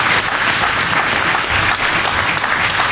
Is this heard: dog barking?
no